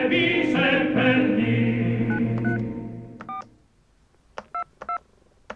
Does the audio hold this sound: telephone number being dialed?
yes